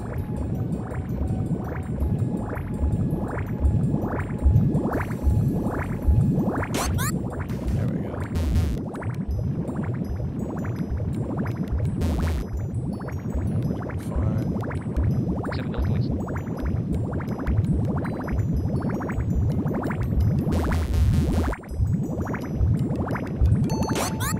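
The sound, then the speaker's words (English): Steady, continuous bubbling and gurgling of water, fairly loud, with dense overlapping bursts of bubbles rising throughout and no voices. “And the best thing to do is focus on the bubbles.”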